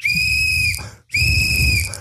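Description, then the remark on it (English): Two loud, shrill blasts of a whistle bought at a 98-cent store, each holding a steady high pitch for most of a second, separated by a brief pause, with a low rumble underneath. “so I went to the 98-cent store and I got myself a whistle.”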